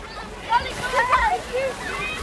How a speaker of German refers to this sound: Oh, ich höre Plätschern im Hintergrund. Kinder laufen hin und her, lautes Geschrei. Etwas fällt ins Wasser, jemand springt ins Wasser.